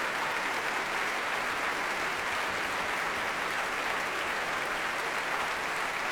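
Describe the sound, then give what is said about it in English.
Sustained applause from a large concert audience at the Proms for the orchestra and conductor Yurovsky after a concerto performance, a dense, even wash of clapping that holds steady at full strength for several seconds without voices. “And the whole orchestra remains seated. Yurovsky as well, while they applaud.”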